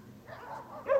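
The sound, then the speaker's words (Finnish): Dogs bark briefly, with a soft, muffled yelping that rises into one sharper, louder bark near the end, heard alone without voices. “Kuuntele, komanganien koirat.”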